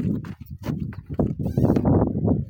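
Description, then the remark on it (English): A donkey used for transport walks, its hooves clopping steadily in a quick run of sharp knocks over a dense, rumbling background that grows louder toward the end. “This is my donkey.”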